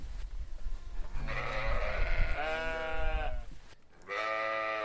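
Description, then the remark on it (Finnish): Many sheep at a pasture fence bleat loudly as children come to pet them, several wavering calls overlapping from about one second on, with a short pause before one more sustained bleat near the end; no one speaks. “Senja, Siina ja Satu juoksivat suoraan lammashaan aidalle, ja monta lammasta tuli siihen heti lasten rapsuteltaviksi.”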